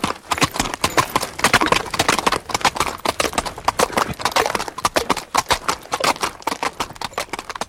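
A horse, given its head by its rider on a morning of departure, gallops in a fast, steady drumming rhythm of dense, sharp impacts, fairly loud, continuing for several seconds with no voices.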